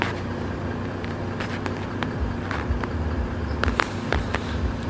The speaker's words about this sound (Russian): Рядом машина стоит, и оттуда раздаются ужасные удары барабанов, тяжелые, мощные. Ну как это вот через стекло автомобиля, через стекло автобуса, он бьет по ушам пассажиров?